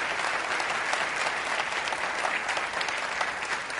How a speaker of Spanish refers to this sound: Mi hermano, denle un aplauso a Dios que se lo merece.